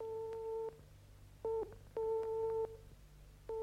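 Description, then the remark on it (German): A telephone tone from an off-hook receiver: repeated steady two-pitch beeps in uneven on-off bursts over a low electrical hum, fairly quiet, with no voices. “Ich neigte mich über den abgehobenen Hörer und lauschte in die Muschel.”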